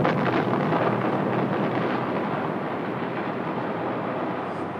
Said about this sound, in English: At zero minus 15 seconds, a warning tone sounds in the plane. The atomic bomb.